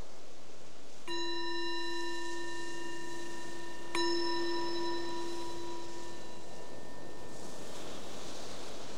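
A meditation bell is struck twice, about three seconds apart, each strike ringing out with a clear, sustained tone that slowly fades over a soft, airy background hiss.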